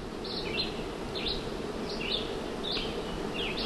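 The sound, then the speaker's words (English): A steady, dense droning hum of hundreds of bees in the branches of blooming chestnut trees fills the background, while short high-pitched bird chirps repeat every half second or so above it. “Hundreds of bees hover up in the branches, coating their legs with pollen. If you listen, you can hear a hum, like the trees are vibrating.”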